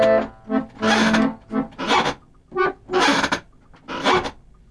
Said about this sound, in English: And now we'll fade away in a radio style, and all we'll be left with is the sad sound of a squeaky chair.